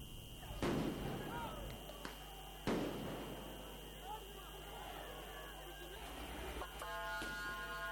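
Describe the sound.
Two loud, sharp bangs of tear gas canisters being fired by riot police in Athens, Greece, to disperse protesters against COVID restrictions and vaccination, a couple of seconds apart, followed by fainter pops, over a steady background of crowd noise and voices.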